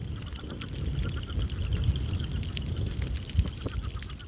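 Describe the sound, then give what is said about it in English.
Leopard and cricket frogs call from ponds surrounding Woolsey White Prairie during a prescribed burn, a mix of scattered clicking calls and low croaks over a steady, rumbling outdoor background. “Hawks careen through the smoke after fleeing field rats, while leopard and cricket frogs in surrounding ponds call out concern.”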